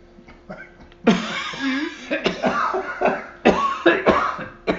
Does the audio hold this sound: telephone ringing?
no